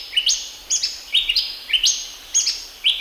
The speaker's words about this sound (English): When those birds sing their late afternoon calls, that's a signal to the children to go back home.